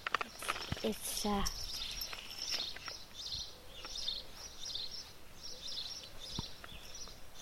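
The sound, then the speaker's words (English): Outdoors, birds sing in repeated high chirping phrases throughout, over a soft rustling background, with a brief burst of sound at the start. “Those birds are singing.”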